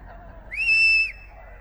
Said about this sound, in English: I'm gonna do a song that requests a little participation from you guys in the whistling form. Yes, please warm up.